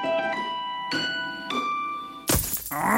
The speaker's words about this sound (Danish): Et steneslag! Det skal du få fikset, for en skadet rude revner lidt, når det er koldt.